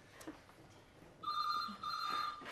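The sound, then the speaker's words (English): After a moment of quiet, a telephone starts ringing with a steady electronic trill: two fairly loud bursts separated by a brief pause, and no voices. “Hello? Right. It's for you, the police.”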